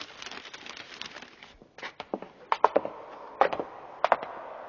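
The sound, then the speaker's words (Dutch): Paper crackles and crinkles as a hat is wrapped in old newspaper, a run of rustling with several sharper crisp snaps toward the end, no one speaking. “Koop maar, doe er maar een papiertje mee. Ja, oude kranten genoeg.”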